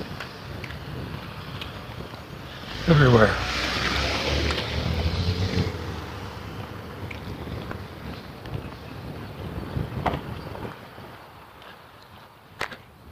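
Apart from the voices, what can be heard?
cars passing by outdoors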